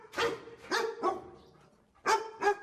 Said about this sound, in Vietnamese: Đối với chúng ta thì nếu nghe tiếng chó sủa, ai mà biết được con chó này sống ở đâu? Tuy nhiên, nhờ sống ở Anh lâu năm cho nên tôi biết vừa rồi là tiếng chó của xứ nữ hoàng.